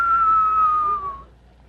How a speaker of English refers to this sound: You can hear the whistling noise.